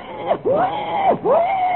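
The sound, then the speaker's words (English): A person imitates a wild boar crying out: three loud, drawn-out wailing calls, each swooping upward then trailing off, repeated in quick succession with no other talk. “The cry of the wild boar.”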